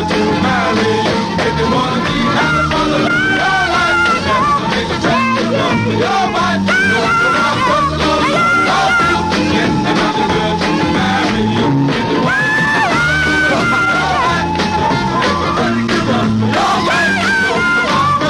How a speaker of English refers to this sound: I picture a little nut about 5'1" walking in there, and all of a sudden at the very end he says, "How about if I scream in here, right at the end, just for kids?"